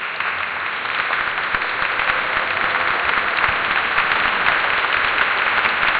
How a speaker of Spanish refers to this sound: Al acabar, sonó incluso una salva de aplausos.